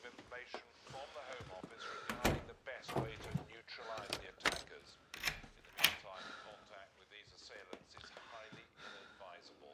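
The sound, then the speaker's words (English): A front door is pushed shut with a few sharp thuds and knocks, while voices murmur and talk over the movement. “I'm going to shut the front door.”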